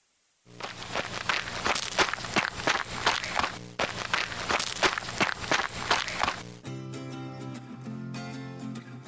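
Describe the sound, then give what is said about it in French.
Quick, steady footsteps of someone running, a loud regular pattern of crunchy thuds over a low hum, ending as a tuneful musical passage takes over. “Voilà, c'est quelqu'un qui court.”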